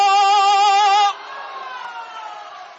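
A held, wavering sung note from a line of the opera Hongyang Dong breaks off after about a second. It is followed by a steady patter of audience applause that continues at moderate loudness to the end.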